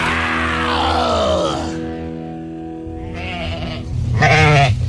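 Sheep bleat in long, wavering calls, one drawn-out bleat fading, then a shorter pair rising near the end, fairly loud over a steady low droning tone.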